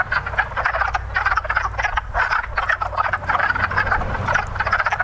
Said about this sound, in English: We have some of the mating call, we think. So you can verify that this is actually a frog mating call. Here we go.